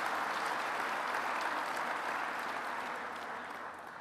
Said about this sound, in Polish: Szanowni Państwo, należą się brawa oczywiście.